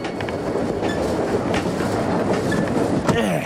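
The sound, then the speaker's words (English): A train travelling from Chicago back to Odyssey rumbles steadily along the tracks with a loud, continuous clatter, brief squeals and rhythmic wheel clicks, with no voices. “Wow, Whit and Eugene are taking a train ride from Chicago back to Odyssey.”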